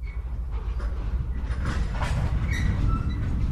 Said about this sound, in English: Some of your missions or scheduled runs start or end at a depot. You can tell it's a depot because it sounds like this. You can hear the trains around you, and as you enter or leave a depot, you are told.